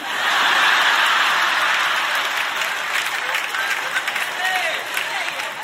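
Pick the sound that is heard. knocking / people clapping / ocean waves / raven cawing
people clapping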